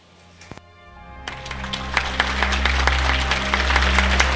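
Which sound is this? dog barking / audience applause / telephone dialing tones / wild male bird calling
audience applause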